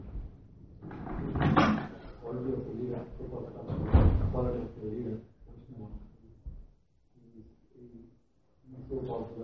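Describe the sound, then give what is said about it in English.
A door is unlocked and opened, clunking and banging twice a couple of seconds apart, while people talk over and between the sounds. “Just unlock the door. Turn it like that.”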